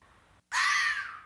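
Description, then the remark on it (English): A single loud, harsh fox scream bursts in after a brief silence, a raspy high-pitched shriek lasting under a second and fading slightly at the end, alone with no talking. “And then I Googled it and I'm like, I think that's what it was. A fox screaming.”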